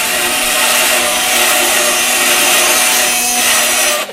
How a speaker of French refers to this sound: Ouais, surtout le heavy black death, extreme hardcore, triple deep shit metal. En gros, c'est des tronçonneuses qui frottent sur des carcasses de char.